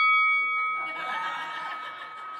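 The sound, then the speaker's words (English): A single bright bell strike, rung to announce round two of Fighting Fair, rings out clearly and lingers as its tone fades, soon joined by soft, breathy laughter. “I see that my husband found the bell he was looking to find.”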